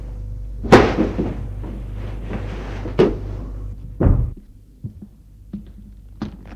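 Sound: footsteps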